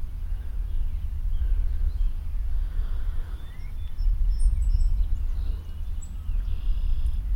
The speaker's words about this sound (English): I apologize if I'm giving too much information here, or giving obvious information, but I thought that some of you folk who live in the UK might not recognize all these Canadian bird calls.